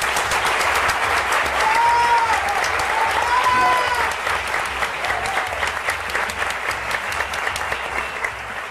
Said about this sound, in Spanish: Los aplausos más cortos, que es que somos muchos y ellos ya se sienten reconocidos.